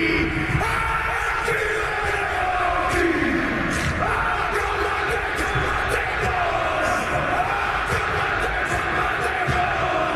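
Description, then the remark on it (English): A haka war chant by the New Zealand rugby team: a group of male voices shouting and bellowing in unison, loud and sustained over a constant crowd roar for the whole stretch. “why did you just play a sound clip of the haka, or whatever it is, from New Zealand?”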